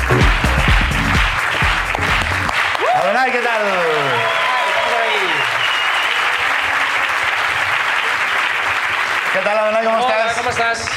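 Loud, sustained applause from an audience fills the whole clip, with cheers and whoops rising above the clapping in the middle and again near the end.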